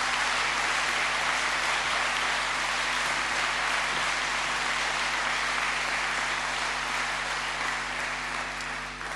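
A large church crowd applauds steadily for several seconds in thanks to a servant of the church, a dense, continuous wash of clapping at an even loudness that only slightly tapers toward the end, with no voices standing out.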